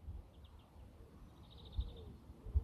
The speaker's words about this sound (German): Auch wenn ich das Vogelgezwitscher so sehr mag. Also ihr hört jetzt gerade O-Ton live, wie laut es hier so auf meinem Pausenplatz ist.